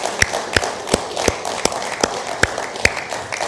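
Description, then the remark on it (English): A church audience applauds warmly for the mothers on Mother's Day, a steady wash of many hands with a few sharp, louder claps punching through at an even beat. No one speaks. “We're just going to clap and acknowledge you and thank you for who you are.”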